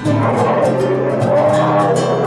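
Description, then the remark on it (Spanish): A bear growls in a deep, continuous rumble that swells and roars for a couple of seconds, loud, with no talking over it. “Escucho al oso.”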